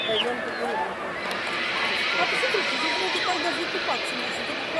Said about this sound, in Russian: Вы слышите крики, друзья? Это крики радости пляжующихся американцев.